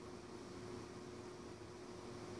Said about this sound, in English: I don't know if you can tell I'm in a different place by the lack of the enormous blasting air conditioner. There is one in the background.